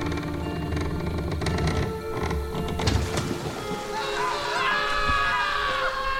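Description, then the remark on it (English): A chaotic burst of heavy thuds and rushing, splashing noise as a boat capsizes into the water gives way to several voices screaming and crying out together, loud. “You hear splashing into the water, and it sounds like the boat capsizes... And then you hear screaming.”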